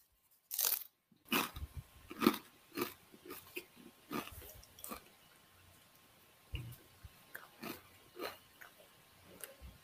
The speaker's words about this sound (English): He has taken a one-chip challenge. That is him crunching.